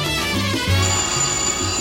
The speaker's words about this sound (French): Le téléphone.